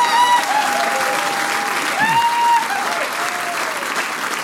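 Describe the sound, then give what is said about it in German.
An audience applauds steadily for several seconds for the Steirermusi, who closed by playing the Styrian state anthem: a dense, even clatter of clapping with a few whoops and cheers rising over it before easing slightly toward the end. “Jawohl, ein Applaus für die Steirermusi.”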